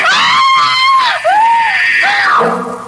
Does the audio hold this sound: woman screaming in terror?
yes